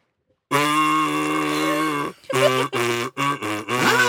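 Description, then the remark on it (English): A kazoo buzzes out the Coronation Street TV theme tune: one long held note, then a string of shorter notes that step up and down in pitch, loud and reedy with no talking. “He's going to play a tune on his kazoo.”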